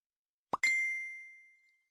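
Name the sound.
phone text message notification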